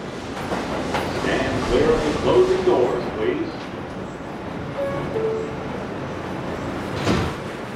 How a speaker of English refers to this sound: So I head into the subway and set off to see Galit.